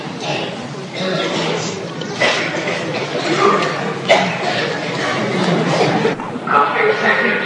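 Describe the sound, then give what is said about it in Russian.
Scattered coughs ring out from an audience over a steady murmur of crowd chatter, with a few sharper bursts standing out above the background noise. “Кашляющая санкиртана.”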